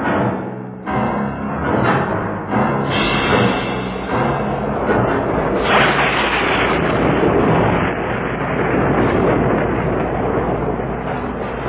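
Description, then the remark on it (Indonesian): A loud, steady roar of heavy rain and strong wind at night fills the whole recording, with deep rumbling thunder and lightning rolling underneath and a few sharper cracks near the start. “Petir dan guntur menyambar-nyambar, angin bertiup kencang, hujan turun dengan derasnya, bagai disiram dari langit.”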